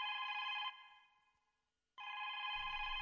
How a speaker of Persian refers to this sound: ای بابا باز این زنگ تلفن برامد.